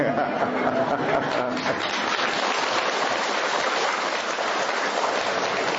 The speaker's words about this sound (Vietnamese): Anh chị em, mấy ngày hôm nay trời nó mưa, và nghe nói là 60 năm vừa rồi chưa có một cái trận mưa nào mà nó lớn, nó to, nó dai như là mưa ngày hôm qua, thứ hai với thứ ba vừa rồi.